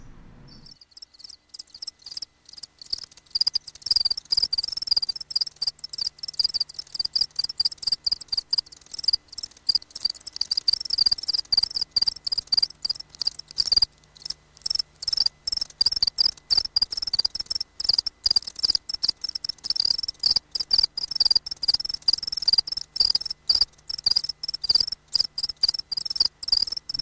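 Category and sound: insect, house cricket chirping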